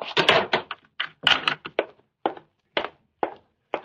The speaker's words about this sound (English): Quickly, lock the door and come back here.